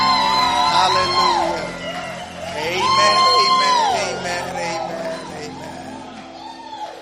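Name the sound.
audience clapping and cheering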